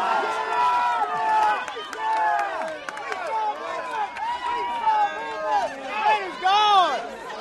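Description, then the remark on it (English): A local crowd at a croquet tournament cheers and shouts in excitement as the perennial winners are knocked out, many overlapping voices rising and falling in loud, continuous waves with scattered higher yells and some clapping. “Even though the trophy has never been awarded to a team from outside the county, the locals still erupt in excitement as the perennial winners are knocked out.”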